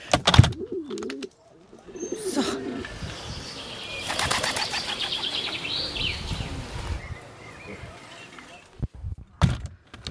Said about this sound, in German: Also, unsere Taube flattert gen blauen Himmel.